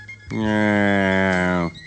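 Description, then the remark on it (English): A calf lets out one sustained moo lasting over a second, a steady, fairly high-pitched bawl with a rich harmonic tone, loud and alone with no talking. “That's right. A calf.”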